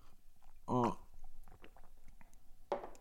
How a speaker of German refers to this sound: Sorry, mal kurz von meinem Kaffee hier nippen.